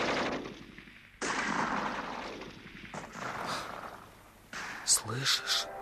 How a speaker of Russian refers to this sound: На станции шла стрельба